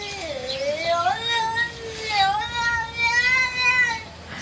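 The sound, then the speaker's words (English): A cat meows in a few long, drawn-out, wavering calls with rising and falling pitch, almost speech-like, heard fairly clearly against a quiet background. “So what do you think this cat is saying?”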